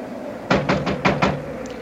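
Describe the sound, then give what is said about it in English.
Five firm knocks on a cabin door at 3 in the morning, in a quick, even rhythm, distinct, with a faint low hum in the background and no voices. “All right, come along. I'll knock.”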